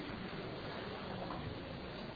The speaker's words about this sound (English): I have coffee essence. So I'm going to take my coffee essence, pour it into my kli sheni.